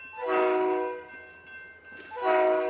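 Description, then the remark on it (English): A train horn sounds two loud, chord-like blasts, one near the start and another at the end, over a steady low rumble of rail traffic on the train line through town in Bellingham. No one speaks. “At the moment, the train line through town is usually a minor inconvenience, a throwback to the days when Bellingham was an industrial town.”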